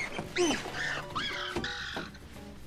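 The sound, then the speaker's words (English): A bird chirps at night outside a window in a quick run of varied, whistly calls with rising and falling notes, clear, with no one talking over it. “It's that goddamn bird outside my goddamn window. What the hell kind of devil bird chirps at night?”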